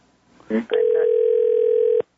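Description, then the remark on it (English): A brief click and scrape, then a steady, loud telephone dial tone hums unbroken for about a second and a half before cutting off abruptly, as a phone call is disconnected and the line drops. “Well, he's off the line now, so I have to call him back again.”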